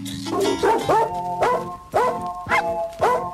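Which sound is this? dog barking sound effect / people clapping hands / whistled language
dog barking sound effect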